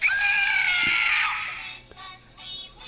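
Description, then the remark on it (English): A quiz game buzzer used on BBC Three Counties Radio gives a loud, harsh, squawking electronic tone for over a second, then tails off, followed by a fainter, shorter second burst. No one speaks. “These are our buzzers, are they?”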